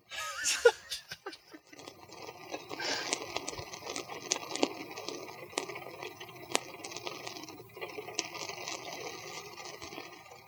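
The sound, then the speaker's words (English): Steady rain falls throughout during a lightning storm, a dense crackling patter with scattered louder drops tapping; a brief burst of soft laughter rises at the very start before the rain carries on alone. “We can fade out with some rain.”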